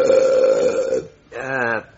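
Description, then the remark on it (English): Two loud belches in a row after a meal: a long, droning burp lasting about a second, then a short pause and a second, shorter croaking burp. “you didn't even burp.”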